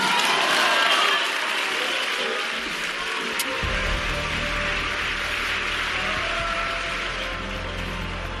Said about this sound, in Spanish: Y llegan esos aplausos que te arropan, ¿verdad? Que te reconocen, y yo creo que te ayudan en esos instantes a pensar en cuál será tu primera frase cuando te diriges a tanta gente, ¿no?